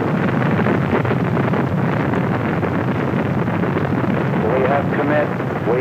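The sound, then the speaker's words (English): Rocket engines roar at liftoff of a 1968 launch at 7:51 a.m. Eastern Standard Time, in a loud, unbroken, rumbling wall of noise that stays steady throughout, with a faint voice briefly audible beneath it near the end. “We have liftoff. Liftoff at 7:51 a.m. Eastern Standard Time.”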